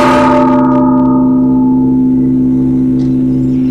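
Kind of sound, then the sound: signal or alarm, church bells tolling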